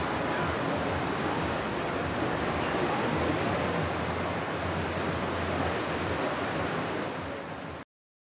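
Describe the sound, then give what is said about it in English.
A steady, dense rush of ocean water and wind churns past below a cruise ship. It is continuous and fairly loud, with no distinct breaks or voices, fading slightly before cutting off. “You're on the edge of the edge. You're always looking at the ocean.”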